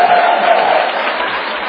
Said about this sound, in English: Those applause are for God, because trust me, I'm not capable.